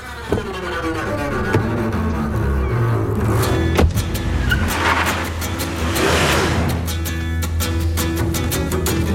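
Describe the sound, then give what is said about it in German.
A car engine runs steadily with a low rumble in a played video clip, revving and accelerating at moments, with clicks and rattles of the vehicle interior; no one speaks. “auch uns ist nicht entgangen, dass du in einem Auto gesessen hast im Tatort”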